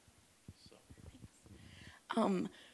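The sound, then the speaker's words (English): A single sharp, loud cough bursts out near the end, following a couple of seconds of soft, murmured voice. “pardon me, I have a cough”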